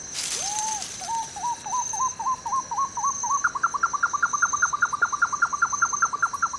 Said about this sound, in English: Baby owl is very talkative, lots to say.